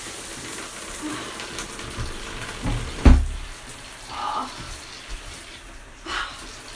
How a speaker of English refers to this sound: Just getting a shower.